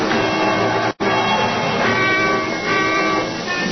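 A train rumbles steadily along the tracks, a dense, loud clattering roar that cuts out for a split second before continuing with slight surges and jolts as the train lurches. No voices.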